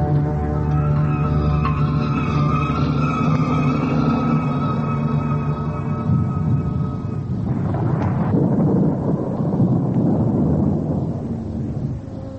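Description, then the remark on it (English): Loud, continuous rumbling of a gathering thunderstorm, a deep rolling roar that swells into broader crashing noise halfway through, with a steady humming drone underneath at first and no voices. “As they ate, they heard storm gather.”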